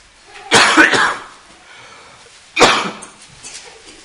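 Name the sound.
person coughing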